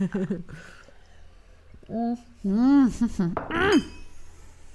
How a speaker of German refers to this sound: Möchtest du auch einen Schluck mit mir anstoßen, Mausi? Ja, das möchte ich. Prost. Klack.